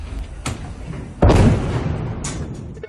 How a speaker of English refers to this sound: Cell phone video showed an explosion on the ship, which caused a fire to break out.